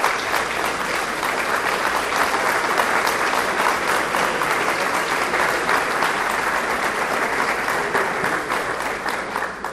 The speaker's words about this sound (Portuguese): Essas palmas não sejam para um discurso, mas para aquele que é o Rei da Glória e que está presente na sua vida.